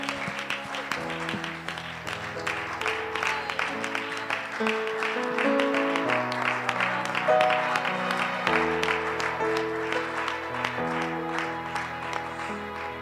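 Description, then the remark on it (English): A crowd claps steadily and continuously for several seconds to applaud the Lord, while sustained keyboard or organ chords play underneath, the applause forming a dense, even wash of sound. “In your precious name, why don't you applaud the Lord for his goodness?”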